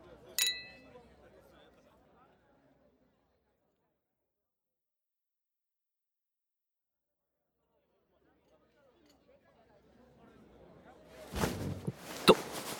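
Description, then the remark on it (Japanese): A bright, ringing clink of glasses touching in a toast, brief at the start, followed by a long quiet stretch, then faint murmuring background activity and a burst of clattering movement. “では先輩の未来の素敵な人に乾杯。”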